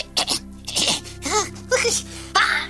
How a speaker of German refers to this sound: Gesundheit, danke.